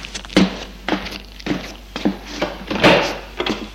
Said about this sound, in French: Le secrétaire se lève pour aller ouvrir la porte.